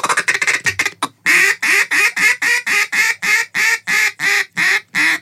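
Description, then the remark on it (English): A duck call blown: a quick rattling flurry of short quacks, then about eleven loud, drawn-out quacks in a steady, evenly spaced rhythm, with no talking. “Pretend that you're calling a duck in.”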